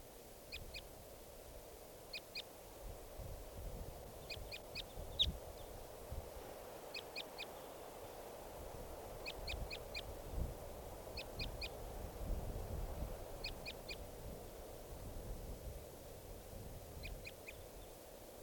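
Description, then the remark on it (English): A lone male wild bird calls repeatedly in quick bursts of two to four high, sharp notes, spaced a second or two apart, over a steady low rumbling background. No one speaks. “And this is a wild bird.”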